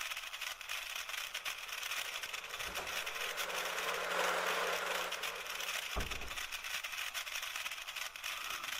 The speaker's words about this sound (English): Electric Lego car. Let's see the Lego car.